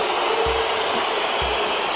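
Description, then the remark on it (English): A large stadium crowd of French fans booing after a disallowed goal in a knockout match between host country France and Brazil, a steady, dense roar of disapproval that fills the whole two seconds, with a couple of dull low thumps underneath and no voices speaking over it. “You can hear the boos there from the French crowd.”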